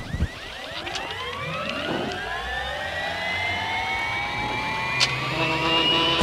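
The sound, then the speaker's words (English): A helicopter takes off to fly over Mount St. Helens on a day with low cloud cover and snow squalls; its turbine whines and steadily climbs in pitch as the engine spools up, a loud, continuous mechanical drone with layered rising tones and no voices. “But helicopter pilot Neil Lawson is a veteran of Mount St. Helens, as is Rick Hoblett, a geologist with the U.S.”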